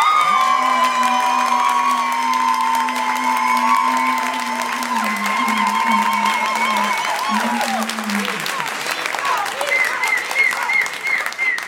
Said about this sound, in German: Euer Applaus für diese Frage.